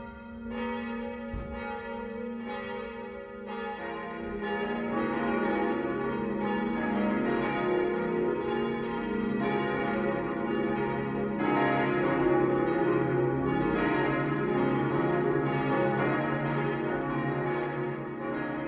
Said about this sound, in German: Es ist 12 Uhr. Das Mittagsläuten kommt heute von der Stadtpfarrkirche Eckenfelden.